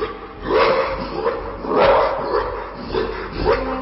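A huge, jet-black dog bursting out of a wall of fog barks and growls several times in deep, rough bursts, with low snarling rumbles between the barks, with no voices.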